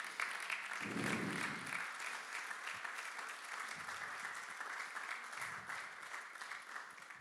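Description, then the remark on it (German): Sustained applause from a crowd as all mothers are celebrated and honoured and give themselves and each other a round of applause, a dense wash of many hands clapping steadily for several seconds at an even, fairly loud level, with a few low thumps mixed in. “Und ihr dürft euch einfach mal selber und gegenseitig einen ganz kräftigen Applaus geben.”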